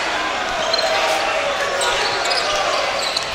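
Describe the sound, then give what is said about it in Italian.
A basketball being dribbled on a court by Strelnex during a game, its bounces partly buried under a steady roar of arena crowd noise that fills the whole stretch. “Strelnex tiene il palleggio, Rossato insiste”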